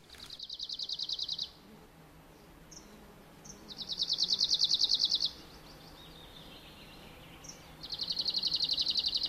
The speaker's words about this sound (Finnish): Ja tämän viikon luontoäänenä visertää Lapin uunilintu. Sen esittelee Pertti Koskimies.